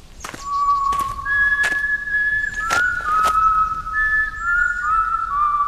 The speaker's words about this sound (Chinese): 咦，怎么会有这么好听的口哨声？好像是鸟儿在对话一样，我从来没有听过这么好听的声音。